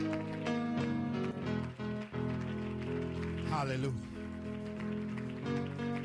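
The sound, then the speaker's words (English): A standing church audience claps steadily in rhythm in praise of the Lord, the dense patter of many hands mixed with sustained organ-like music and a voice calling out over it. “And everybody giving the Lord a big hand clap of praise.”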